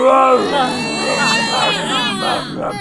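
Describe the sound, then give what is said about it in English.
Loud, continuous Wookiee growling, a throaty warbling roar that wavers in pitch for a few seconds without pause, with no one speaking over it. “The rookies shake their head at Luke. They continue their growling.”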